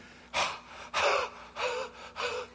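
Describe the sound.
A voice imitates heavy, ragged gasping after running into a house and falling to the ground: four loud, breathy inhales and exhales in a steady rhythm, with no talking.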